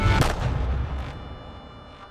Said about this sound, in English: Then I heard a shot.